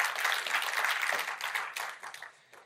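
A crowd breaks into dense, steady applause, many hands clapping at once in a broad crackling wash that holds for a couple of seconds, then thins out and fades.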